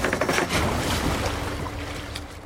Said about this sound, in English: At the Highway 89 fishing access south of Livingston Friday morning, wildlife biologists coax a green raft into the river.